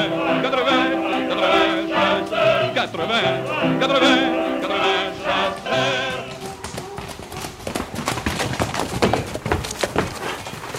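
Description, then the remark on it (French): A horse's hooves thump and clatter in an uneven series of loud knocks as it walks out of its box stall on a hunting day, following several seconds of voices singing together. “Cheval qui sort du box.”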